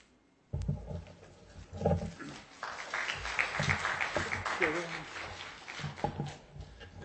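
A sudden burst of audience applause at a public meeting, following a speaker's comments on a neighborhood project; dense and steady for several seconds, with a few voices and murmurs mixed into the clapping.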